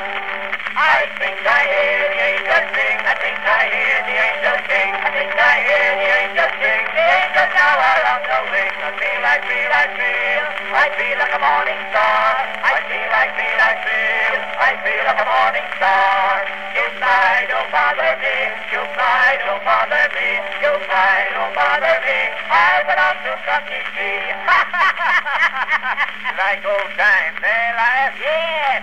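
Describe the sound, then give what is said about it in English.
A melodeon plays a steady stream of reedy, sustained chords and melody for about half a minute, evenly loud throughout, with no voices and a faint low hum underneath. “Well, let me try that melodeon.”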